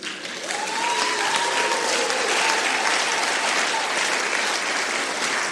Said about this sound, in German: Und jetzt geben wir Jesus einen Applaus.